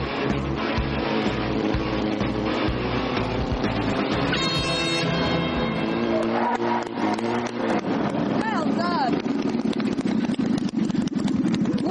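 A small, puny engine on a spiky-wheeled racing vehicle buzzes and revs loudly and continuously, its pitch rising in quick sweeps as it corners, amid a busy, cluttered background of mechanical noise and other sounds.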